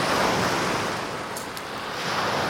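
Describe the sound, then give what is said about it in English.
Rough water on the River Tay crashes continuously, a loud, dense wash of breaking waves with wind buffeting the microphone and no pauses between swells. “It can get quite rough, this. It is rough.”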